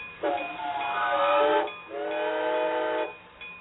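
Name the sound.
train pulling up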